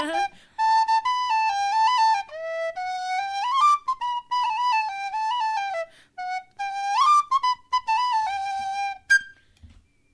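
A bright, reedy whistle plays a lively melody in quick flowing phrases with short breaths between them, loud, with no talking, before the tune stops just short of the end; a recorded piece of music played on Today FM, a national radio station.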